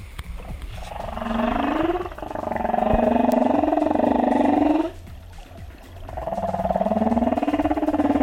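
Long, moaning humpback whale calls rise and swoop in pitch, three drawn-out tonal phrases separated by a brief lull, carried over a murky, rumbling underwater background, captured with special underwater microphones.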